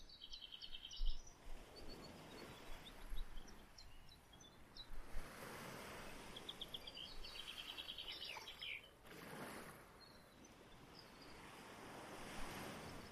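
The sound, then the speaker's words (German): Steady ocean surf washes in broad, rolling surges while birds chirp and trill in short bursts above it, with a light breeze in the background and no voices. “Die Vögel, den Wind, das sanfte Rauschen des Meeres.”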